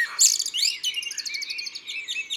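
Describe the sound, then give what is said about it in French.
A common blackbird, perched on a house roof at dawn on 1 May, sings alone, answering other blackbirds in the neighbourhood: a brief warbled note quickly gives way to a soft, very high-pitched twittering flourish of rapid chirps that runs on for a couple of seconds. “Le merle est perché sur le toit d'une maison, bien en vue, et il répond à d'autres merles du quartier.”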